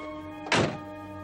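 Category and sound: vehicle, car door closing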